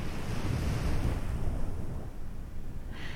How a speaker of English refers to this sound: Yeah, this setting is very philosophical, isn't it? A quiet beach, nothing but the sound of ocean waves, a crescent moon in the sky.